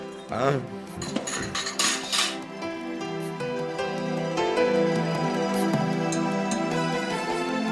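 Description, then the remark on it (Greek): Dishes and cutlery clink and clatter in a steady run of small knocks and chimes as food is brought to the table, with a busy background murmur filling the space. “Έρχονται και τα φαγητά μας.”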